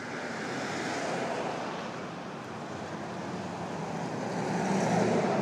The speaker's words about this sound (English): Suddenly a lot of activity has arrived all at once here. Cars driving past, people walking past, bicyclist, Uber, and it's just pulled up. Incredible.